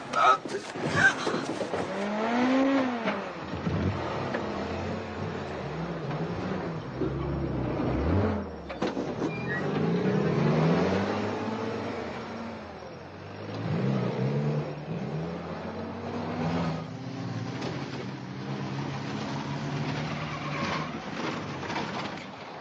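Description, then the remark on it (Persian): A car engine revs loudly, its pitch climbing and falling as a soldier drives the vehicle off back to headquarters, with a steady rumbling drone lasting throughout. “سرباز، ماشین رو برگردون به مرکز.”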